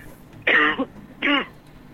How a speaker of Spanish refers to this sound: Le dio tos, está ahí. Sí, estoy con un poquito de gripe.